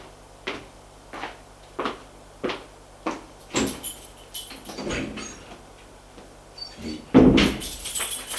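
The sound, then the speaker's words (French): A run of evenly spaced knocking steps as a man leaves a woman in her room gives way to some rattling handling, then he shuts the door with a heavy, booming thud and locks it with a key; no one speaks. “Elle entend qu'il a fermé la porte à clé.”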